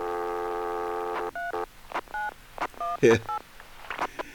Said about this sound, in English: So this is a fun tape. We got funny noises. We got dial tones and DTMF. We got people breathing into the phone.